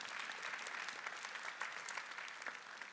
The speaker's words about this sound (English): And that's because, again, you want to clap for Jesus, you clap for Jesus, amen.